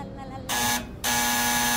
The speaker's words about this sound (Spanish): Cuando sonó el timbre.